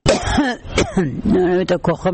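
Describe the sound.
A woman who separates kurk fibres from sheep's wool in Herat province, Afghanistan, and suffers from respiratory illness coughs several times in close succession, rough voiced coughs mixed with throat-clearing sounds, loud.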